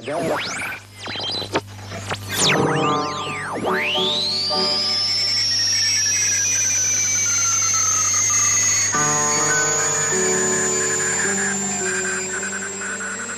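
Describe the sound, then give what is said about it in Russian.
An electronic radio-art piece, the composition "Radio on Radio" by German radio artists about the art of radio, made of shortwave-style sounds that are not actual shortwave noise or interference: sweeping whistles swoop down and rise into a long high tone, over steady hiss, a low hum and buzzing layered tones, loud throughout with no voices. “Это звучит композиция немецких радиохудожников «Радио на радио», посвященная искусству радио.”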